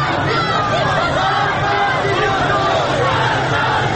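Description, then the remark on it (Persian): A large crowd of protest marchers in the streets shouts and chants together as they draw nearer and nearer, a dense, steady roar of many overlapping voices that stays loud and unbroken throughout. “صدای فریاد راهپیمایی کنندگان نزدیکتر و نزدیکتر میشد.”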